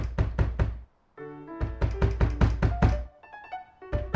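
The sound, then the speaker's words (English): Heavy fist pounding by a singer on the door of Beethoven's apartment in fast, insistent bursts of loud thuds, with brief sustained musical tones filling the short pauses between volleys. “Then the singer comes back, starts pounding on the door.”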